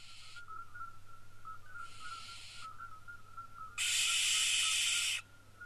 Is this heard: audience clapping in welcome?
no